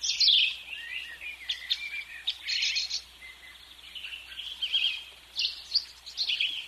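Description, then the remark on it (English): A flock of birds flying in, chirping busily and continuously, with overlapping bright tweets in repeated bursts, moderately loud, with no voices present. “Okay, we were talking to Donna and got rudely interrupted by those birds flying in.”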